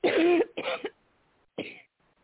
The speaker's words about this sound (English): Oh, sorry. Coughing a lot tonight.